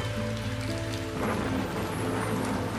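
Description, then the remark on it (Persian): Gentle rain falls steadily, a soft continuous patter of small drops throughout, with a low sustained drone humming beneath it and no voices. “قطره‌های بارون آروم و آهسته روی دستات فروز میان.”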